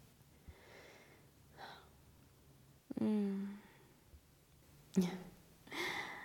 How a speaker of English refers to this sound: I know he's so relaxed. I can feel it. The way he's breathing.